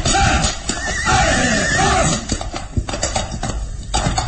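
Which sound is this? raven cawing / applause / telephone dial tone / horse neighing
horse neighing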